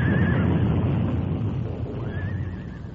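A horse pulling a buckboard rears and backs up, whinnying shrilly twice, once at the start and again near the end, over a steady low rumbling background with no voices.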